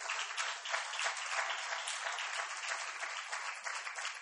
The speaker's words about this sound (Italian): Vi accogliamo con un applauso.